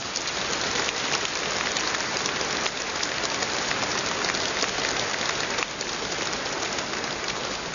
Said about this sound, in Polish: Witamy telewizję Trwam oraz jej techniczną obsługę. Także dla nich gromkie brawa.